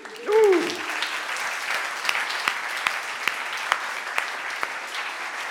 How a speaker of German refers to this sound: Und wir begrüßen mit einem kurzen, kräftigen Applaus auch alle Emsiler, die sie zurückkommen.